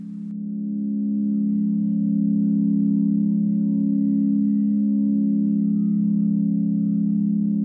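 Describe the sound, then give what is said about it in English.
A sustained, shimmering singing bowl drone hums steadily, its warm low tone slowly pulsing and swelling with rich overtones, ringing on without any voices. It is a recorded singing bowl tone made for a zodiac sign and played for meditation. “This woman made an album of like singing bowl tones for each zodiac sign.”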